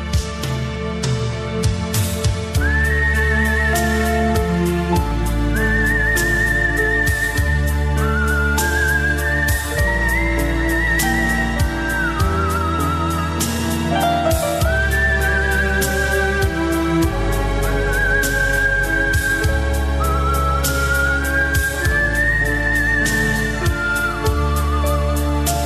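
A clear, melodic whistled tune glides and sustains phrase after phrase over a full instrumental backing with steady rhythmic percussion, the whistling sitting prominently on top throughout.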